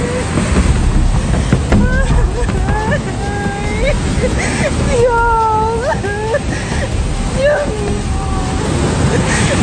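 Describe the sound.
A loud, continuous roar of floodwater carrying stones and mud churns through a channel in Chosica, dense, while frightened voices cry out over it.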